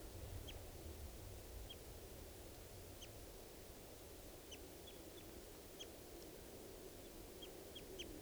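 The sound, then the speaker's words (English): A gray adult male bird in a tree calls repeatedly, giving about a dozen short, high, faint notes at irregular intervals over a steady low rushing background noise. “And they were in the same tree as the adult female, and they're calling here. That's the adult male, that's the gray, male gray.”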